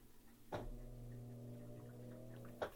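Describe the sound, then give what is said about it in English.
A washing machine's motor drones with a steady, low harmonic hum during its spin cycle, broken by two sharp clunks from the mechanism, one near the start and one at the end, as the spin function turns off for a little bit. No voices. “That's the spin function just turning off for a little bit.”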